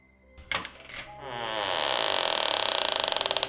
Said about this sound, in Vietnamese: Đang dò dự thì đột nhiên cửa phòng 1A từ từ mở ra.